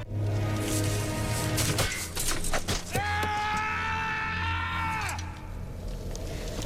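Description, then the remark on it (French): A man playing Aragorn in a Lord of the Rings film scene lets out a few short, strained cries, then a loud, high-pitched scream of pain held steady for about two seconds before it breaks off, after kicking a helmet and hurting his foot. “Eh bien écoutez, c'était un hurlement de douleur.”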